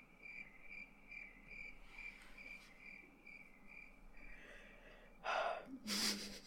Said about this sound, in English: I love those crickets. What? Yeah, I do love those crickets.